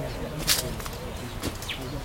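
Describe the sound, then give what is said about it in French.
Many birds chirp and call in an orchard, a few short bright notes and sweeping tweets scattered over a steady background murmur. “Au milieu de ce beau verger, les oiseaux sont nombreux, heureux et le font savoir, car ils trouvent de quoi se nourrir en quantité eux aussi.”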